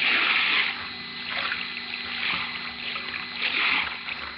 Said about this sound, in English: The powerful tide catches at the chest and rolls it over, then drags it along the sandy, pebbly bottom, turns it again and again and again, as in some grim, ironic game.